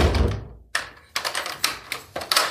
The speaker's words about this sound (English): Now close it, and I want to hear you lock it.